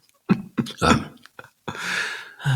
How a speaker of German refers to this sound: Entschuldigung, ich habe einen Hustenanfall.